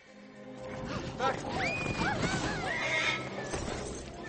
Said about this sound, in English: Easy, easy! Princess Anna's horse.